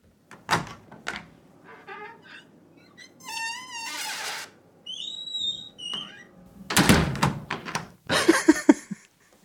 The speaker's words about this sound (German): Dann habe ich gedacht, ich mache mal was ganz anderes und zack, mach mir doch mal ein Geräusch von einer quietschenden Türe.